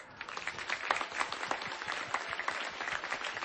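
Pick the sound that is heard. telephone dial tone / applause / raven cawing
applause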